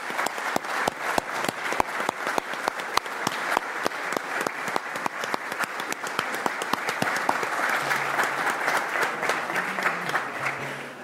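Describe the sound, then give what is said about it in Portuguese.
A large audience applauds steadily for Rui de Carvalho, dense clapping sustained throughout and swelling slightly louder toward the end, with no speech over it. “Por isso, uma enorme, enorme salva de palmas para o Rui de Carvalho, que merece muito o nosso amor e a nossa gratidão.”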